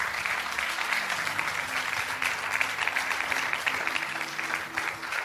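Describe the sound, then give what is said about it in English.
A crowd applauds steadily, a dense, even wash of many hands clapping that holds at a fairly loud level for several seconds, with faint cheering mixed into the clatter, a cheer given for several young men. “Give these brave young men a cheer.”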